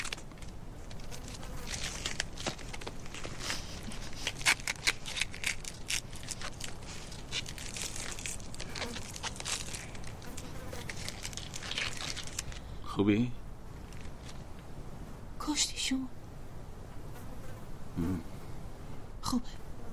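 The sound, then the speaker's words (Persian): Adhesive tape being peeled off a person's hands and face, a dense sticky crackling that runs steadily for several seconds, then gives way to a few sparser, softer pulls and rustles. “میشه بیام داخل چسب دست صورت باز کنم؟”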